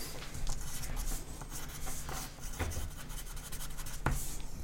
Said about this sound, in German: Schreibst du es gerade auf